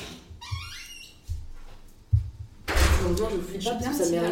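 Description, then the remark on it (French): A door that was not shut properly creaks open on its own with a series of thin, rising squeaks over a couple of seconds, soft bumps underneath, followed by a louder wash of room noise and indistinct voices. “Attends, je reviens parce que je crois qu'il y a la porte qui s'ouvre toute seule.”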